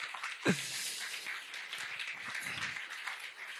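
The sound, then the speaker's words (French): An audience breaks into steady applause for a person's appointment as a knight of France's Légion d'honneur, a dense wash of many hands clapping at an even, moderately loud level with a brief thump near the start and no voices. “Donc on peut l'applaudir pour ça.”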